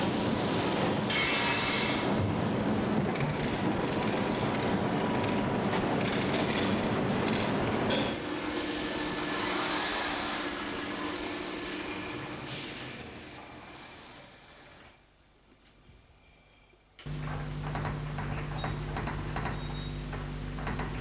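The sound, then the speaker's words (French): A private freight train running to Perrache rolls along the rails with loud, rumbling clatter and rhythmic clacking. The noise eases, falls nearly silent for a moment, then gives way to a steady, low droning hum. “Après la fabrication, on leur a présenté l'emballage, la mise à quai, puis le train privé qui va jusqu'à Perrache et les camions.”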